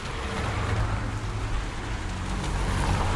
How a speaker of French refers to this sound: Une voiture ! Attention, une voiture ! Oh la vache ! Nous sommes rue de Merlan, nous serons toujours du côté des voitures.